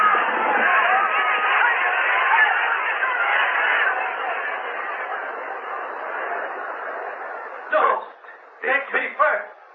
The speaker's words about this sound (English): The crowd cried out in fury.